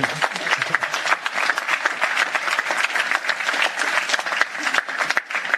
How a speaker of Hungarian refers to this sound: Ki az, aki most van itt először életében? Hát nagy tapsod neki.